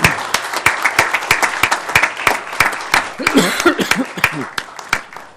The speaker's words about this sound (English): So with that, I am, and when I bang the gavel, even the police can clap for this one, okay? When I bang the gavel. So with that, I vote aye. Congratulations.